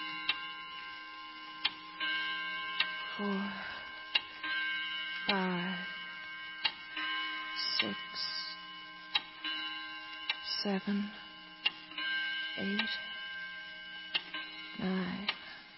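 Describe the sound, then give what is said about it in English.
A clock ticks in a slow, steady rhythm, each sharp tick clear against a low background hum, while brief murmuring voices break in now and then. “while we all concentrate on the clock”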